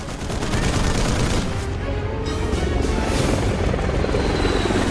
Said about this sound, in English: group tries to escape in a transit van, US Marine Cobra helicopters appear in the sky overhead and scythe the terrorists down from above.